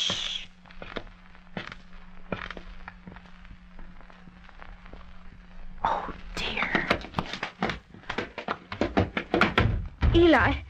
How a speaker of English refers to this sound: Yeah, he's cold all right, but I didn't knock him. I accidentally tripped over him in the dark.